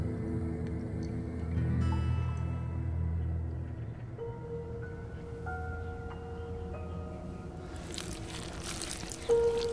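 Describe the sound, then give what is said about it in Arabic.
Water from an oasis outside the walls of the Kingdom of Tart, squeezed out of a wet cloth, trickles and dribbles over a low, steady rumble with faint tonal hums, ending in a brief louder splash of pouring water. “قامت شاد بعصر قماشة من مياه واحة خارج أسوار مملكة التارت.”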